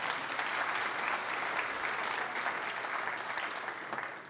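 An audience applauds steadily, a dense wash of clapping hands that holds at a fairly even level for several seconds without any voices over it.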